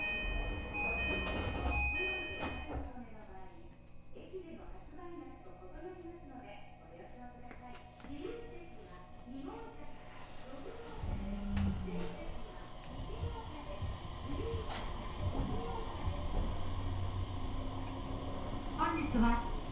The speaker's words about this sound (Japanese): まもなく発車します。 ドアが閉まります。ご注意ください。ドアが閉まります。ご注意ください。